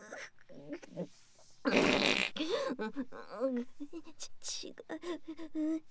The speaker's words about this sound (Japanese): 違います、興奮なんてしてない。おなら隠れて興奮なんて。